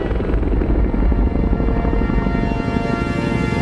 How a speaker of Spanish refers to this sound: El helicóptero se aleja.